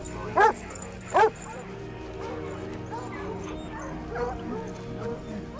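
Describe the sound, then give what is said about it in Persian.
Two sharp, loud dog barks close together near the start, followed by softer whimpers and yips over a low background rumble, with faint voices underneath, from dogs that have been out on a long search and need rest. “سگا باید یکم استراحت کنه.”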